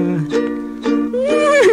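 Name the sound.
horse neighing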